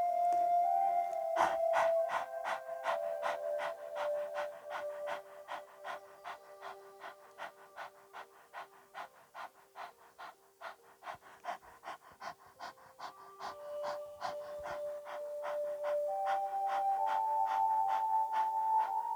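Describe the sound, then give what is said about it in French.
A person pants rapidly and rhythmically with the tongue out, like a small dog, as a breathing exercise; the short breaths are steady over soft sustained musical tones in the background. “Au travers de la respiration du petit chien, sens ton énergie qui descend.”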